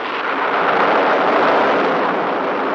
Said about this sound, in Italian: Adesso sentirai il tuono.